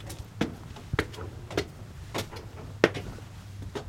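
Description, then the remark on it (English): A side door of the building that will become the new Northwest Arkansas Free Health Center is opened, heard as a series of sharp clacks and thumps from the latch and handle, spaced irregularly over a steady low hum, with no one speaking. “opened a side door to enter what will soon be the new Northwest Arkansas Free Health Center.”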